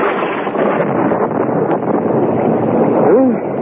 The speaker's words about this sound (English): Listen to that thunder. Bad storm. I hope the roof won't leak. It's this wind. It gets in underneath the roof tiles.